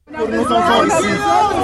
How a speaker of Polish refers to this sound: Gdy francuski przywódca oglądał zniszczenie w centrum Bejrutu, z tłumu Libańczyków słychać było krzyki: pomóż nam, jesteś naszą jedyną nadzieją. Zdesperowani mieszkańcy apelowali do Emmanuela Macrona o pomoc